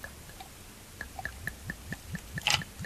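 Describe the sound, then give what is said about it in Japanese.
Shochu glugs from a bottle into a glass, poured in first before carbonated water, in a steady run of about a dozen quick pulses, each with a rising hollow tone, ending in a brief splashy burst. No one speaks. “なので焼酎は香りを楽しみたいので先入れです。”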